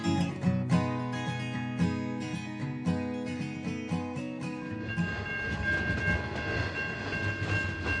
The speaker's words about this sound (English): This is a coal train heading to the port of Newcastle, fully loaded. This is the Great Northern Line, so it goes right up through into Gunnedah and the Gunnedah Basin. And that was long.